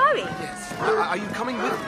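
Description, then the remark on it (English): A dog gives short yips and high, wavering whimpers, mixed in with people talking over it for a couple of seconds. “Oh, sorry about the dog.”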